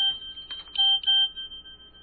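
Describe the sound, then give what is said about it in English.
A mobile phone, left on and plugged in to charge, rings with a short run of bright electronic notes, two or three quick tonal chirps settling into a steady, ringing tone. No one speaks. “I should have remembered not to leave the phone on this week.”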